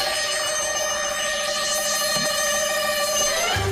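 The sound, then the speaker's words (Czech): Small bells jingle continuously, the bell jingle of the Mašinérie programme on Fresh Radio 103.6 FM, bright and shimmering, with a steady ringing texture layered over a low background hum throughout. “Ty zvonečky, myšný pásy byste v tuto chvíli slyšeli pro dnešní mašinérie naposled.”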